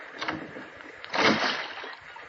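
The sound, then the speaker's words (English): Water sloshes and laps against a small rowboat as it rocks while people board it, with a fuller surge of splashing midway, then softer lapping as the hull settles. No voices. “I'm in the boat now. Take one more step.”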